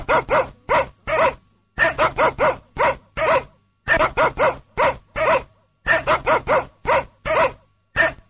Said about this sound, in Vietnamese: Trong lúc đó, con chó của cậu ta trông nom đàn cừu. Được một lát, con chó nhảy chồm lên cậu chủ nhỏ, sủa gâu gâu, có vẻ khoái trá.